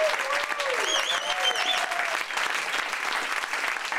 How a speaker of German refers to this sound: bitte einen schönen Applaus. Danke, einen großen Applaus bitte an den bezaubernden Simon Kern.